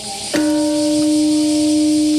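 A single deep peace bell is struck once at a memorial ceremony in Japan at 8:15 a.m. on August 6, marking the 80th anniversary of the Hiroshima atomic bombing; its low, steady tone rings out and sustains long after the strike over a faint background of ambient noise.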